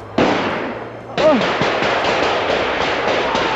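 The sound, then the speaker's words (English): Two loud, sharp gunshots ring out close together, followed by a rapid, dense barrage of gunfire that keeps crackling continuously without a break, as police move in on a roadblock in the pines at Oka. “And then we hear the gunshots.”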